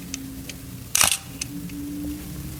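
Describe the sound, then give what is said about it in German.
A single sharp mechanical focal-plane shutter release from the first of two cameras being compared (one has a rubberized cloth focal-plane shutter, the other a metal one running top to bottom), a crisp clack with a brief metallic snap, surrounded by faint clicks and a low steady hum. “Und eure Aufgabe ist es jetzt zu erraten, welcher ist der Gummituchschlitzverschluss und welcher ist der Metallschlitzverschluss? Hätten wir da mal die Kamera 1.”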